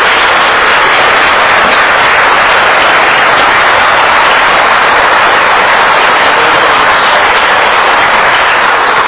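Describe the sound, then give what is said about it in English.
A crowd breaks into steady, sustained applause, a dense wash of many hands clapping at once that stays loud and even for several seconds with no voices over it. “Could we please give them a round?”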